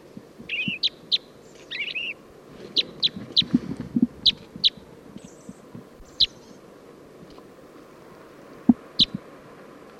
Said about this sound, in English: There's a male purple finch right next to the female crossbill who's calling. Song of the purple finch.